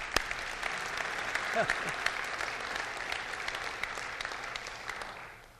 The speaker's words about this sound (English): Let's clap again.